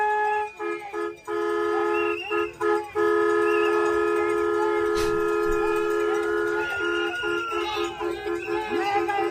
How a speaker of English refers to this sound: got himself a brand new air horn, ladies and gentlemen.